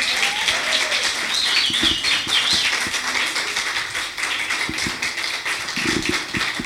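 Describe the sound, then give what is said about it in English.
An audience applauds an artist after his performance, steadily for several seconds, a dense, even wash of many hands clapping with sharper individual claps popping through and a few thin high whistles above it. “Allez, encore un applaudissement pour lui.”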